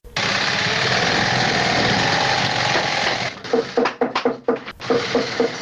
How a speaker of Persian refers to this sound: یکی از کارخانه های تولید بود در شهر کابل که کارگرانان با دلسردی تمام و نامید از یک آینده روشن چکش می زنند و چرخ ماشین های بودوزی را به صدا در می آورند.